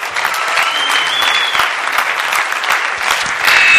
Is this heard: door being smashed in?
no